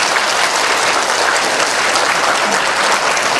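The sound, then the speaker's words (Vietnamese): Sustained applause from an audience congratulating a Vietnamese student who has just won first prize nationwide in the United States, a dense steady wash of many hands clapping at once, loud, continuing evenly throughout without any talking. “là một học sinh Việt Nam vừa mới đoạt giải nhất toàn liên bang của nước Mỹ, và chúng tôi xin quý vị cho cháu một tràng pháo tay để chúc mừng.”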